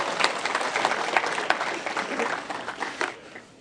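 An audience applauds, many hands clapping together in a dense, steady patter that stays fairly loud before thinning out and fading at the end.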